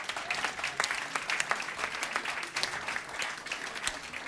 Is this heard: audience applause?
yes